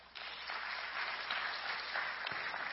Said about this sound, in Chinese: 我们给神一个掌声。